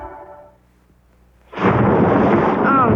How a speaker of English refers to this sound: No, rain again.